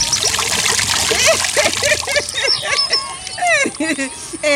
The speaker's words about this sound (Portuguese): Os dois vão até a torneira tip-tap para lavar as mãos.